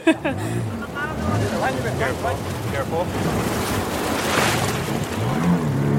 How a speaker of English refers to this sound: we had to go straight into crashing waves with the pirogue head on, essentially gunning it to make sure we could make it over that first breaker